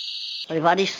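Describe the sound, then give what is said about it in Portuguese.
A steady high-pitched electronic tone cuts off, then a voice makes one brief, rising clucking sound, imitating frightened chickens perched in a fruit tree. “E as galinhas estavam cocó, cocó, cocó, cocó, cocó, cocó.”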